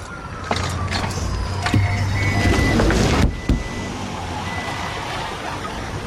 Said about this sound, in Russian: садится в машину и уезжает.